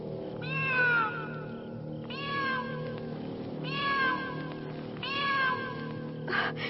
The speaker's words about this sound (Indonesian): Ibu, dengar suara kucing itu. Suaranya begitu menakutkan. Suaranya menusuk perasaanku. Bulu kuduku sampai berdiri.